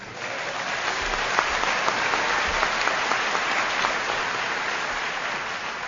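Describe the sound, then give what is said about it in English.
A steady wave of audience applause, dense clapping from many hands at a moderate, even level for several seconds with no talking over it. “However, applauding a drunk for not drinking is like giving a rodeo cowboy a belt buckle for not riding a Brahma bull because he's got hemorrhoids.”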